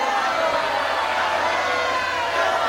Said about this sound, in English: And okay, now the crowd. Okay. Yes, thank you, crowd.